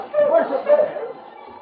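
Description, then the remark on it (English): A pack of sled dogs pulling a dog team along a trail to Selkirk in the Yukon barks and yips together in a brief, busy flurry that fades after about a second. Some voice-like chatter mixes in, at moderate volume. “moved along the trail to Selkirk behind their dog team.”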